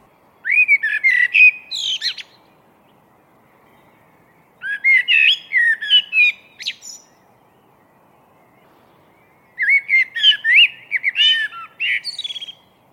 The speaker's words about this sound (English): This blackbird was singing out of the chilled pre-dawn darkness. It's one of the most spirited and passionate songs I have ever heard on any continent. And it's right here on my doorstep.